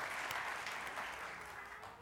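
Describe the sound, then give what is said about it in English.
A church audience claps steadily in a broad, dense wash of applause from many hands, fairly loud and sustained, with faint voices mixed underneath. “Let's just have a round of applause for our people getting there.”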